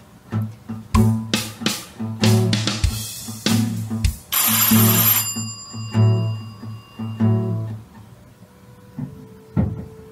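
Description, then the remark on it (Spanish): A doorbell rings with a series of sharp, bright chiming strikes and lingering tones, followed by a burst of louder ringing that slowly fades out, as someone goes to answer the door. No one speaks. “El timbre cortó la tensión del momento. Ángel salió a atender la puerta”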